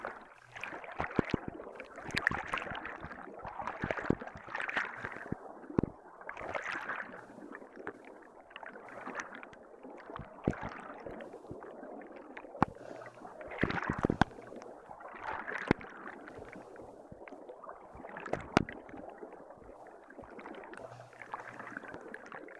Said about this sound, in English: You notice the lapping of the water against your kayak.